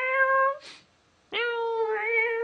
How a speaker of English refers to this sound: Yeah, and realistic cat sound effects. Wow!